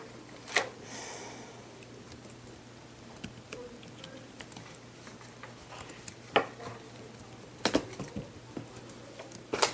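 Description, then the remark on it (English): Scattered clicks of typing on a computer keyboard, irregular keystrokes with pauses between bursts, over a steady low electrical hum. “The keyboard does not want to cooperate.”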